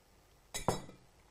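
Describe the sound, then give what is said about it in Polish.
A small bell rings with two quick, bright strikes in close succession during a tea-drinking ritual, each strike leaving a short shimmering decay, heard alone over a faint quiet background. “Więc tak, jest herbata, dzwonek był.”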